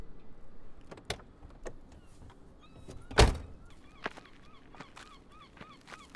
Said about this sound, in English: Jack tried the driver's door and was surprised that it opened.